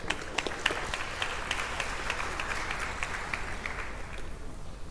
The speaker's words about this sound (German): Viel Spaß! Ja, und Applaus danke.